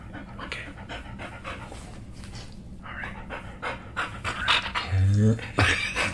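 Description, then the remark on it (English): A dog at a home in Los Angeles pants rapidly and excitedly, a steady run of quick breathy huffs, growing louder toward the end with a brief whimpery vocal sound. “We're gonna get some dog breath on the podcast.”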